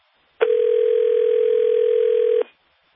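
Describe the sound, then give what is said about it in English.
A steady telephone dial tone hums alone for about two seconds after a caller's cell phone call drops. It is loud, starts abruptly and cuts off just as suddenly, with silence on either side. “His phone got broken in on. That was a cell phone.”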